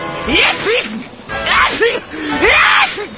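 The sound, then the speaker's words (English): Three loud, exaggerated sneezes follow one another about a second apart, each a voiced, pitch-sliding burst ending in a sharp explosive release. “The symptoms can include itchy nose, throat, and eyes, tearing, a clear nasal discharge, and terrible sneezing.”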